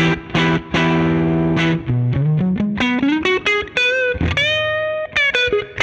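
An electric guitar through an amp with its volume knob, which works as gain, set around 7, giving the first light overdrive, playing a sustained chord, then a rising run of single notes and more chords, with a slightly gritty, harmonically rich tone.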